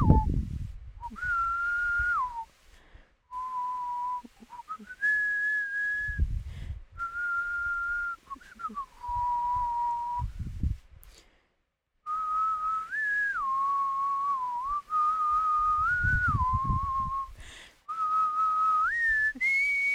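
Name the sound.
person whistling a tune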